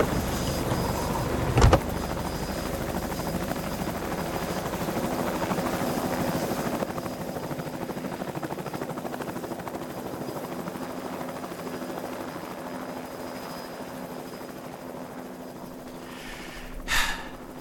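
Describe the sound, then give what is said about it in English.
A helicopter drones steadily overhead, its rotor and engine making a continuous rumbling whir for the whole stretch, with a sharp thump near the start and a brief burst of noise near the end. “If we end up doing Christmas this year, I'm putting Cool Helicopter at the top of my list.”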